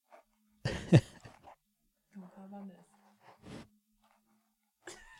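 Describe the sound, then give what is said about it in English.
A female dog sniffs in a few short, breathy bursts with gaps between them, alongside some faint vocal sounds in the background. “Oh, sniffing just like she does on her walks.”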